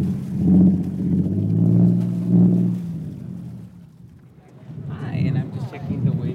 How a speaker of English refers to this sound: We were out at that harbor recently as boats fired up their engines and were preparing to take passengers lined up for a sunset cruise.